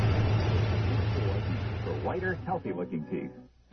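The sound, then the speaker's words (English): A truck engine rumbles with a steady, low drone as the truck drives to a house. Partway through, voices start talking over the continuing engine noise. “We can take my truck.”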